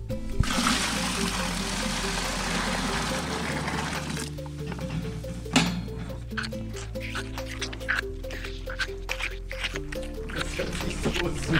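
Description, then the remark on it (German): Liquid gushes and splashes steadily for a few seconds as hot water and calf milk are mixed and poured into a calf milk feeder, then softer sloshing and drips continue over a steady musical background. “Mischen wir also heißes Wasser mit der Kälbermilch zusammen und das geben wir den jetzt in die Milchbar rein.”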